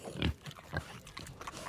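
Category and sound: animal, pig grunting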